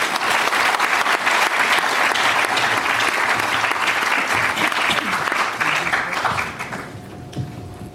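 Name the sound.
audience applause welcoming speakers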